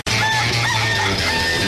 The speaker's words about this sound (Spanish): Ese gallo.